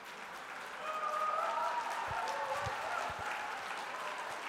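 Sustained applause from an audience in Mexico during a Korean-Spanish speech, a dense wash of many hands clapping that swells after the first second and holds steady, with a few low thumps and some faint voices mixed in.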